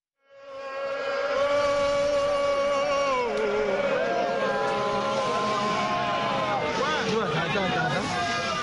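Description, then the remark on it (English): A crowd of Vinso people in the town of Kumbu, in Cameroon's northwest region, shouts and cheers in a loud, sustained chorus of overlapping voices, with wavering high-pitched calls rising over a steady wash of noise that could be clapping. “Vinso people of Cameroon's northwest region shout and applaud in the town of Kumbu.”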